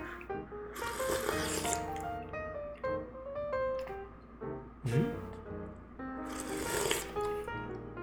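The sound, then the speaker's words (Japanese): Two noisy slurps of seafood noodle soup with a milky-white broth, about five seconds apart, over steady background music, with a short snort-like breath in between. “うんとしちょっとキャベツと海鮮の匂いがちゃんとします、はい、じゃあスープいただきます。”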